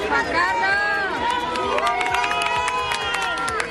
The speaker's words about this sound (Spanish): Entre los invitados destacaban varias personalidades del Partido Popular, como Alberto Ruiz Gallardón o Esperanza Aguirre, y de la Casa Real, entre las que destacaba el rey Juan Carlos, que también ha sido vitoreado por la multitud.